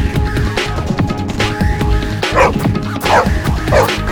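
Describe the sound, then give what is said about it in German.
A dog barks repeatedly in quick, excited, loud bursts with rapid yips as it charges ahead of a grim farmer toward a boy, amid some background commotion. “Voller Schrecken sieht er den grimmigen Bauern und vorneweg den Hund auf sich zurennen.”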